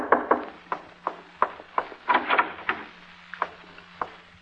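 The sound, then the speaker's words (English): Knocking on a wooden door: a series of sharp, hollow raps in an uneven rhythm, some in quick clusters, fairly loud over a faint steady low hum, with no voices. “As a matter of fact, it was a Sunday before Labor Day that there was a knock on my door.”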